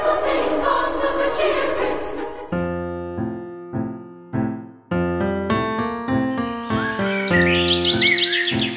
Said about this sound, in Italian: Scuola di canto per pappagalli stonati con la docente Costanza Passerotti. I tuoi uccellini sono così stonati che non riescono a cantare nemmeno Fra Martino Campanaro?